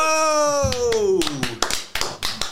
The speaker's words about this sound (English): Little two-finger clap, did you ever do that?